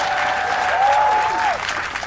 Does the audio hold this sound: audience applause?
yes